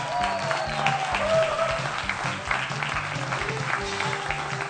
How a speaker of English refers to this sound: We have three wonderful couples that are going to come up and join us. Let me ask you to give a big round of applause.